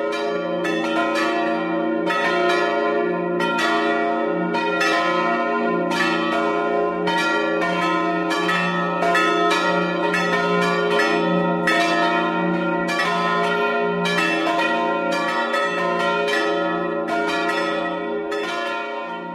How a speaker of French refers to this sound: Et les cloches, c'est pareil. Quand on sait qu'on est écouté, qu'on fait plaisir, c'est merveilleux de sonner.